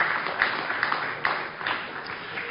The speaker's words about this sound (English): I know, let's just give God a round of applause. That's so good.